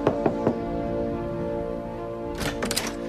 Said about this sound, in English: Cleveland knocks on the door of number 13B, Mr. Farber's apartment.